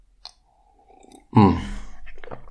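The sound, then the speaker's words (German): A small click, then a slurping sip of coffee followed by a short, breathy voiced sigh and soft mouth noises, with no talking. “Erstmal wieder einen Schluck Kaffee.”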